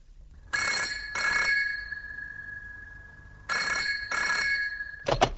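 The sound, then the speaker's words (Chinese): A telephone rings twice in the classic double-burst pattern, loud, with a steady electronic tone between the rings, then a sharp clatter as someone picks up the call. “请听，有人接电话。”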